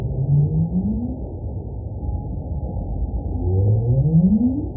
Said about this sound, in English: Yeah, whales use sound in a lot of different ways. One of the most common and popular ways to think about whale sounds is this concept of whale song.